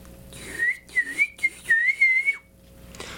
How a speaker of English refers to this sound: What was that? Did you hear something over there? Only a bird. A live bird.